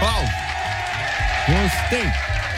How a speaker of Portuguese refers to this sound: Aplausos.